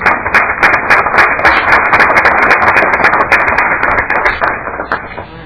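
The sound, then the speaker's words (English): Applause fills the whole stretch as a committee welcomes students from St. Louis Park High School, a dense, steady patter of many hands clapping at even loudness, thinning slightly near the end. “So join me in welcoming them to our committee.”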